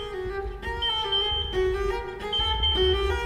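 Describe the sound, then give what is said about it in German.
An infusion pump alarm beeps in a steady repeating pattern of bright electronic tones, loud, sounding on its own with no talking. The alarm is set off by pinching the infusion tube. “Nichts Dramatisches, nur kurz in den Infusionsschlauch kneifen, damit der Alarm an der Pumpe losgeht.”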